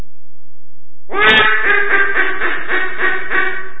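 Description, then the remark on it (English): A duck call, used to call ducks in, blown in a loud, raspy run of quacks, about eight buzzy, nasal pulses in a steady rhythm, following a second of near silence. No voices are heard. “And that's what you use to call a duck in.”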